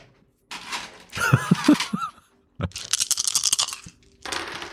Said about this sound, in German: Moment. Ich habe gewürfelt, habe leider einen schlechten Wert. Das heißt, die Immersion konnten wir nicht aufrechthalten. Kritischer Fail.